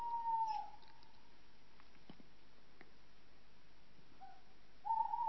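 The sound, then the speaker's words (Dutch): A male tawny owl hoots in January, the tawny owl's mating season: a loud wavering call at the start, then quiet with faint rustles, and the hoot begins again at the end. No one speaks. “Januari is de paartijd van de bosuil. En dan kun je die mannetjes kun je dan extra fanatiek horen roepen.”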